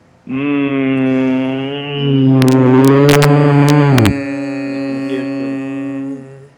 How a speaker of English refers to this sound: So we're going right. We're going down with the hum. All the way down, all the way back up. Right. Right. So like sort of here. What's that? just that we're letting our body sort of swing down and then pull back up with the hum